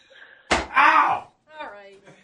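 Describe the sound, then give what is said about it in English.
A door shuts with one sharp, fairly loud thud as a man leaves the room, followed by people talking. “All right, he found the door. He is out of here.”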